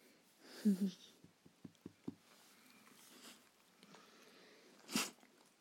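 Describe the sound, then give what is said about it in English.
A dog sneezes, a quick double snort early on and another sharp burst near the end, with soft sniffs and clicks in between. “Bless you again.”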